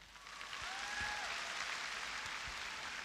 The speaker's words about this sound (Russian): сейчас встречайте бурными аплодисментами